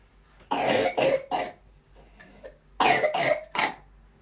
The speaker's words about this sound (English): We've got bad coughs anyway.